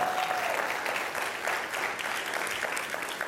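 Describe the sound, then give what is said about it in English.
A crowd applauds steadily for a young man who received an honors award, a dense, even wash of many hands clapping that holds at a fairly loud level for a few seconds without any voices standing out. “Would you give him one more round of applause?”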